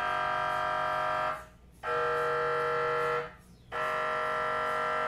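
Loud, harsh buzzing tones from an MRI scanner, droning in long bursts with two brief pauses between them, steady and alarm-like with no voices.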